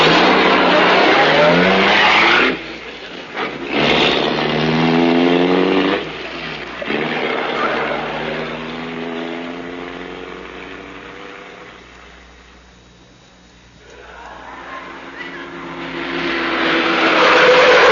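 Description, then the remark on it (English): A racing car roars by, engine revving up and down in rising sweeps, with tires squealing and skidding before it fades briefly and then surges loud again. “Now, quick, into this racing car this time.”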